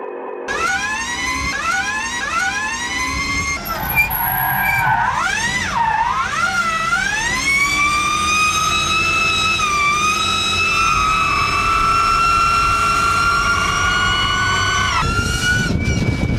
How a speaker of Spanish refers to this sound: todos los comentarios son referencia al ruido que hace, como de un sonido muy agudo y muy potente que hace porque tiene 7 motores eléctricos.